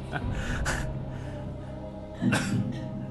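Two short, breathy coughs from someone on the sidelines, spaced about a second and a half apart, over a low murmur with no clear speech.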